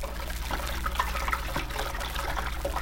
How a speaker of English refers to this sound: It was the water running in the sink.